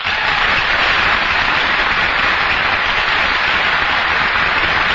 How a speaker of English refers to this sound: Thank you. Thank you. Take down the applause sign. Thank you.